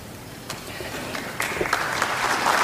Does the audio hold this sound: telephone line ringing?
no